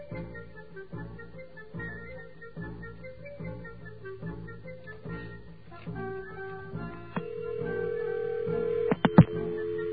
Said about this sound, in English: Okay, there we heard the ring and we heard the dial tone. So let's hit a zero. And we got another dial tone.